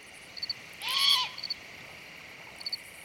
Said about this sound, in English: I suspect this horrible sound is a young great horned owl.